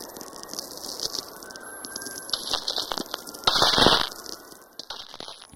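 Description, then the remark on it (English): Auroral crackling, caused when a geomagnetic storm hits the Earth and releases electrical charge trapped beneath an atmospheric layer: a steady hiss scattered with irregular sharp pops and snaps, swelling into a denser, louder burst of crackle just past the midpoint before thinning out again. No one speaks. “When a geomagnetic storm hits the Earth, the lid breaks and the charge is released, creating the weird sounds.”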